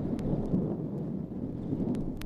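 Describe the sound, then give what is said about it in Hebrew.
A continuous artillery barrage at Meshek Gonen, hidden by heavy smoke, no longer single guns but one long sequence of shells merging into one heavy thunder-like rumble, dense in the low end, with a few sharp cracks cutting through. No voices are heard. “עכשיו כבר לא שומעים תותחים בודדים אלא רצף אחד ארוך של פגזים שנשמע כרעם אדיר.”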